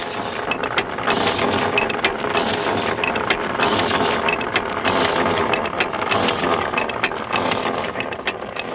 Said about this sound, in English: While Ben and his crew send the rotary drill deeper into the ground